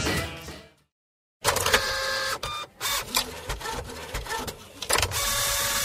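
printer running

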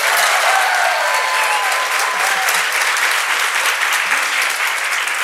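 audience applauding and cheering

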